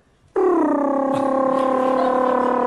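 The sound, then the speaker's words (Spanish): A voice imitates a woman's fart with one long, steady, buzzy tone that starts abruptly, dips slightly in pitch, then holds loud for over two seconds with no other talking. “la elegancia con la que se tira los pedos.”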